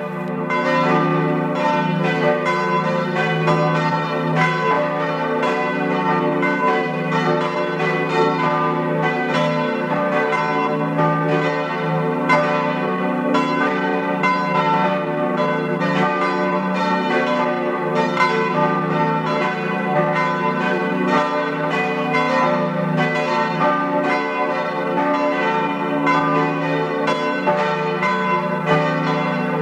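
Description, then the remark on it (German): The bells of the parish church St. Valentin in Rietz, Tyrol, peal continuously at 12 noon for half a minute, several bells overlapping in a dense, ringing wash with no voices, steady and fairly loud throughout. “Sie hören die Glocken der Pfarrkirche St. Valentin in Rietz in Tirol.”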